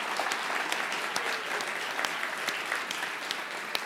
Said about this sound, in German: Und wie wäre das, wenn wir allen nochmal einen kräftigen Applaus geben würden, die beteiligt waren? Richtig, richtig gut. Wow.